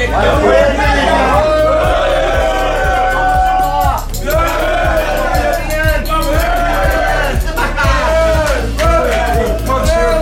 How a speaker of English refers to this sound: Everybody's eating. It's a happy crowd.